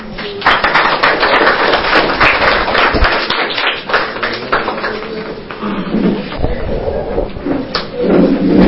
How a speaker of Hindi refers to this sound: Single engine ने तालियां बजाई, छोटू ने तालियां बजाई, ऐसे लग रहा है मम्मा पापा की तालियां नहीं थी ये.